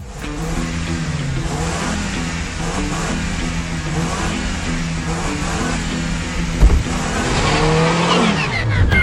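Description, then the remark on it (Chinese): A car engine revs steadily with a rising whine, building louder toward the end as the driver drifts the car up to pick someone up from work; a brief bump interrupts midway, with no voices. “今天我要接她下班，等她出来，我要用帅气的漂移开到她面前，她一定会被我帅气的开车姿势征服。”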